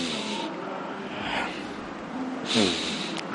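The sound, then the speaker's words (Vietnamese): Three loud, airy breaths drawn in and pushed out by a person sitting relaxed in a breathing exercise, with a sharp nasal snort-like inhale near the end, over a steady background hiss and no talking. “Hít hà thở 3 cái.”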